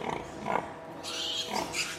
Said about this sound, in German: Einige stoßen ihre langen Rüssel ins Gesäuge. Die Sau beginnt rhythmisch zu grunzen.